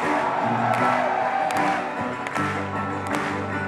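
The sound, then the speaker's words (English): A crowd cheers and applauds loudly and steadily, a dense wash of clapping with whoops and shouting voices layered over it, plus a few sharper claps standing out. “Big round of applause to Sal Payam for having us all here tonight.”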